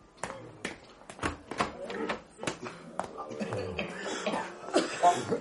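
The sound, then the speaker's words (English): A man with pneumonic plague coughs up blood repeatedly, a string of harsh, irregular bursts that gives way to rougher, wheezy sounds, with muffled voices faintly in the background. “He'll continue coughing up blood until he brings up the matter on his lungs.”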